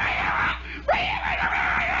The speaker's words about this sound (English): He's in the woods now, and he's yelling. You can hear him yelling.